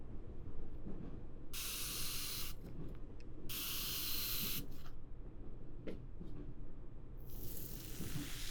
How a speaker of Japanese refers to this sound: よかった、大丈夫みたいなので、何度かスプレーをかけながら頭皮を揉んで血行を良くしていきますね。